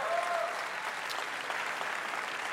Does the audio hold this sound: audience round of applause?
yes